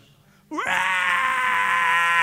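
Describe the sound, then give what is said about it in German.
A person's voice imitates a hungry baby crying. After a brief quiet moment it breaks into one loud, sustained wail that rises sharply at the start, then holds steady and strained. “Was macht ein Kind, wenn es hungrig ist? Ein Baby?”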